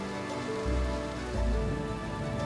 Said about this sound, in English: the pouring rain soaking through her thin nightgown.